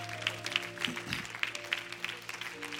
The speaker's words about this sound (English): Praise God. Would you clap your hands unto him and bless his name?